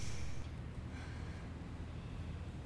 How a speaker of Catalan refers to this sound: Panteixa, afectada, i se li omplen els ulls de llàgrimes.